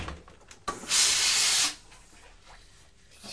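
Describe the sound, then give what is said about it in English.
A steam iron, used to press down a collar, lets out a single loud, bright hiss of steam lasting under a second, rising abruptly out of low background noise and cutting off just as sharply. “I'm going to press that collar down actually because it was sticking up a little bit the other day, wasn't it?”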